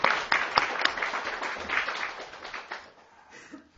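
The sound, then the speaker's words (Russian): A small group claps together in steady, overlapping applause that starts strong and gradually thins out, fading toward the end, with a faint voice near the close. “Мы хлопали? Да, супер.”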